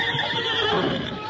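A horse named Silver whinnies in one sustained, quavering call lasting over a second, loud and fairly high-pitched with a shaky, fluttering tone.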